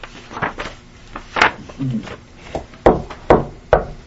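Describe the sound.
Several sharp, irregular knocks on a door, fairly loud, with short pauses between them and a faint murmur of voices underneath.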